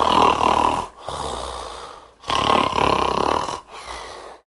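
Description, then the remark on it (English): A person imitates snoring with their voice: two loud, raspy inhaling snores, each followed by a softer, breathy exhale, in a slow, steady rhythm with no talking. “Snoring. It's that annoying sound you might hear at night that comes from someone's nose and mouth, like...”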